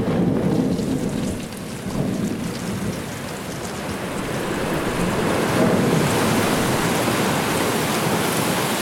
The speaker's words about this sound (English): Even the sound of the ice is the sound of us, of our ship, crashing into it.